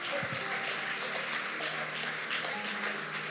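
A crowd applauds steadily for the founder of the agri-tech foundation Thrive Agric, a dense wash of many hands clapping at an even, fairly loud level throughout with no talking over it.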